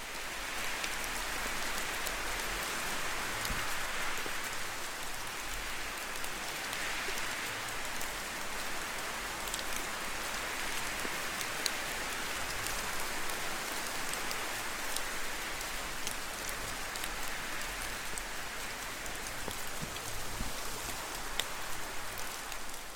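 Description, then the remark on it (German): Steady rain patters down continuously, a dense hiss of countless drops with a soft low rumble of wind beneath, even and unbroken throughout with no voices. “Während du den Tropfen des Regens lauscht, mit den Geräuschen des Windes sanft folgst gibt es für dich nichts weiteres zu tun,”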